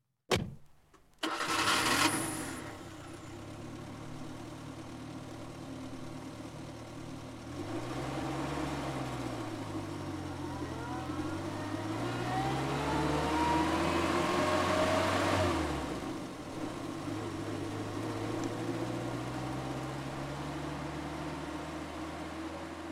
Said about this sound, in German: liegt es auch schon im stockdunklen Kofferraum des Autos und der Bürgermeister braust mit ihm davon in Richtung Schmuddelfing.